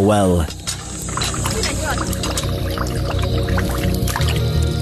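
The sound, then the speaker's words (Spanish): Water splashes and gushes in steady rhythmic pulses as young women pump it from a well in a leper colony in South Sudan, a continuous liquid rush with voices audible in the background. “Estas jóvenes bombean agua de un pozo.”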